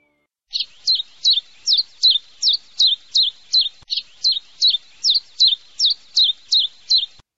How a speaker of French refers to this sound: C'était le pouillot véloce. Ce petit oiseau au plumage gris verdâtre émet un tchip-tchap caractéristique répété avec constance.